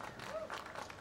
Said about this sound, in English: Bizarrely, members of the audience applaud, and you could hear them whistling in the background, but that Slaughterbot punched a hole in a mannequin's brain.